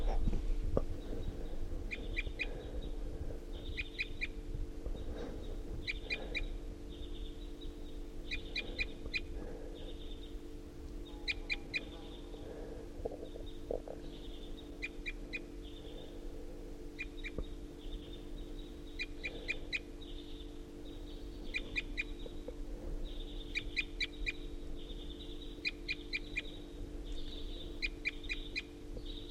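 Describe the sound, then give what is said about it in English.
A wild bird perched atop a tall ponderosa pine, recorded at 7:31, calls in repeated bursts of short, high chirps in quick clusters, with brief pauses between, over a steady low hum and faint background noise. No one speaks. “recording at 7:31, and this is a wild bird perched up on the top of a tall ponderosa pine.”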